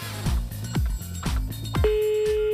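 A steady telephone ringback tone from an RTL radio game call to a listener comes in near the end and holds, ringing a third time, over a rhythmic music bed with regular thumping bass beats.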